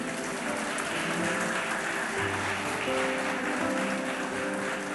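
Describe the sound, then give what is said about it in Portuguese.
An audience applauds the Lord steadily for several seconds, a dense, continuous wash of clapping hands at an even loudness, with no voices standing out above it. “Quem crê pode aplaudir o Senhor.”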